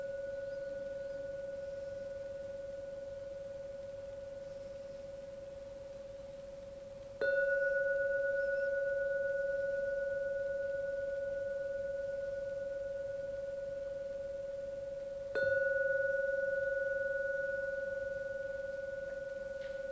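A meditation gong rings with a long, steady humming tone that slowly fades, then is struck twice more at even intervals, each strike renewing the sustained ring. No one speaks. The third ringing signals the end of the meditation.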